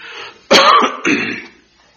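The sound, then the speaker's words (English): Two rough, forceful throat-clearing coughs in quick succession, loud and raspy, with a brief pause between them and no talking over them. “Excuse me.”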